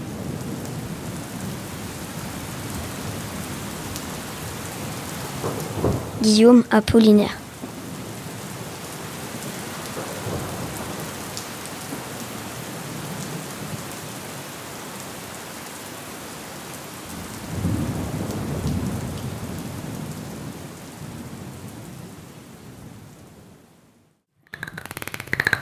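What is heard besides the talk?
rain falling with thunder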